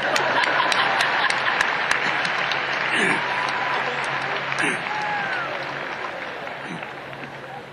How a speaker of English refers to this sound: But of course, you know, fathers might feel a little jealous, but you know, fathers, they couldn't have been mothers without you. So maybe we can clap fathers a little bit too.